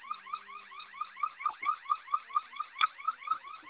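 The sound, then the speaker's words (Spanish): A shop's security alarm on Calzada de Tlalpan blares a rapid, repeating electronic whoop, each high-pitched sweep pulsing in steady rhythm about four times a second, loud and continuous with no voices. It cannot be switched off because an incorrect code was entered and the keypad is locked. “Es lo que no les está permitiendo desalarmar.”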